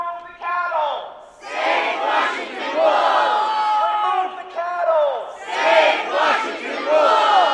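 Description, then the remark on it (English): A crowd of roughly 80 protesters at a state capitol, protesting the state's decision to shoot and kill the entire Profanity Peak wolf pack, chants and shouts in unison, many loud overlapping voices rising and falling in rhythmic bursts throughout, with no single speaker standing out. “Roughly 80 people gathered at the state capitol last week to protest the state's decision to shoot and kill the entire Profanity Peak wolf pack.”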